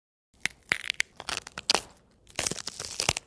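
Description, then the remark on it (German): Crisp, snapping crunches of celery, several sharp breaks in quick irregular succession with wet crackling between them, fairly loud, no voices. “Sellerie.”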